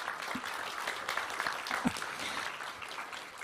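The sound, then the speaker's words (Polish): A crowd applauds to congratulate school teams from Trzebinia, Tomaszów Mazowiecki, Wrocław, Słupsk and Dębica in Poland, a dense patter of many hands clapping at a fairly even level throughout, with no voices heard over it. “Wielkie brawa. Gratulujemy.”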